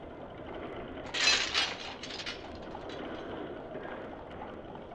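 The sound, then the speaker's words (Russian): A castle drawbridge being lowered: a loud clattering, rattling burst early on, then a steady rumbling, grinding wash of noise that continues to the end, with no voices. “Спустить подъемный мост.”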